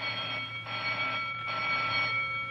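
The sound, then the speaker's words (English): A bell rings continuously for a couple of seconds, a bright, buzzing metallic tone that pulses slightly in intensity, with no voices over it. “Oh, say, will you please ring the bell and stop wasting my time?”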